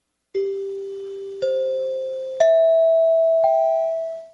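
A dinner bell chime, the NBC chimes, rings out four clear, rising notes about a second apart, each tone lingering and blending into the next before fading, fairly loud with no talking.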